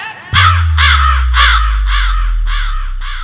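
A crow caws loudly, about seven harsh, rasping calls in a quick, steady rhythm over a deep, continuous bass rumble.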